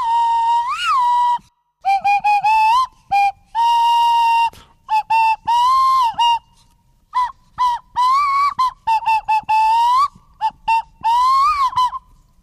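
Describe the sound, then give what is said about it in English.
A swanee whistle plays a tune on its own, loud, its bright notes sliding and bending in short phrases separated by brief pauses. “So that there's no chance of us talking over it and spoiling his full Swanee whistle.”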